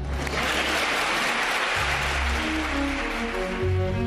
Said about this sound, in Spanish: Y después de hablar el líder de Ciudadanos, los aplausos no terminaban cuando comenzaba a hablar Meritxell Batet.